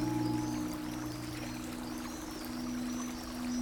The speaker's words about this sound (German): Und ich kann auch Wasser hören. In meinem Refugium habe ich einen Fluss, einen See oder auch eine Quelle. Ich höre das Rauschen, das Strömen, das Glucksen und Spritzen.